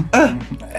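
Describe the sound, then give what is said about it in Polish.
A single short, throaty burp with a voiced, rasping tone that swells quickly and trails off into a fainter rumble, loud and alone without any talking. “Tu, no, to jest gaz.”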